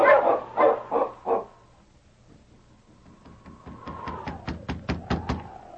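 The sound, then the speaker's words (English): Several husky sled dogs bark in loud bursts, a few heavy woofs and then a rapid run of sharp, higher barks, with a steady whining tone droning underneath. “On, you huskies!”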